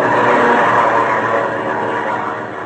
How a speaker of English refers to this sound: I lose that plane every few seconds because of these tree branches.